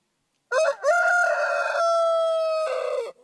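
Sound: rooster crowing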